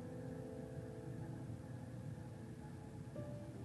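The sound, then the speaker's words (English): Steady, continuous hum of a home air conditioner, a low droning rumble with a faint tonal whine running through it, unchanging in loudness, with a slight pitch shift near the end. “Right now I can hear the hum of my air conditioning, which is keeping all of us comfortable”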